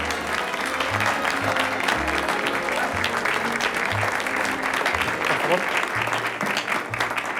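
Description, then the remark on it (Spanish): Steady, sustained applause from an audience welcoming a young woman chosen as a candidate, a dense wash of many hands clapping at an even loudness for several seconds, with a low rhythmic musical pulse underneath. “Damas y caballeros, recibamos con una calurosa ovación a esta hermosa señorita.”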